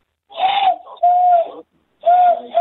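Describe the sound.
A person attempts a kookaburra call with their voice, producing three loud, hollow hooting bursts at a steady mid pitch, separated by short pauses and sounding more like a recorder than a bird.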